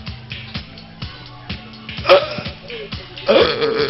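Two short, raspy burps from a person burping into a microphone, one near the middle and a louder one toward the end, over a steady rhythmic beat playing quietly in the background.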